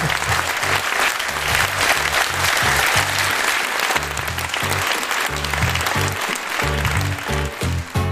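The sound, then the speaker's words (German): An audience applauds Swiss Federal Councillor Ignazio Cassis steadily and loudly for about eight seconds, a dense wash of clapping with no pauses, while a low, rhythmic bass line pulses beneath it. “Einen großen Applaus.”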